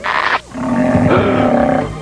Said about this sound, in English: I could really go for an 8-course meal. Being around all this food's made my tummy growl.